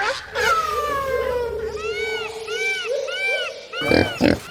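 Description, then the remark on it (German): Kunekune pigs in the Mühlendorf area of Hellabrunn Zoo grunt and squeal loudly, a long drawn-out whine giving way to a run of rising, wavering squeals, then two short gruff grunts at the end. “Mit einem lauten Grunzen begrüßen wir einmal mehr zum Mir san Tier Podcast”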